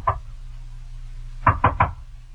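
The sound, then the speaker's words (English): A single knock on a woman's door, a short pause, then three quick firm knocks in a row, clear over a low steady hum. “A little dewy-eyed, a little dazed, a little impervious to the knocking on her door that finally rouses her from love's sweet coma.”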